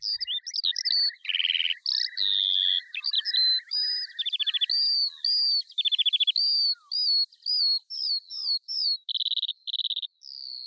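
A skylark sings a long, unbroken stream of rapid trills, warbles and buzzy chirps, bright and high-pitched, continuing for the whole stretch with no voices or other sounds.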